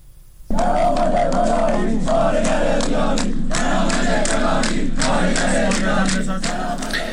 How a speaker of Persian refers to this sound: اما بر اساس گزارش‌ها و ویدیوهای منتشر شده، روز سه‌شنبه کارکنان پتروشیمی مسجد سلیمان و کارکنان پالایشگاه 11 فاز 13 پارس جنوبی تجمع کرده و شعارهای اعتراضی سر دادند.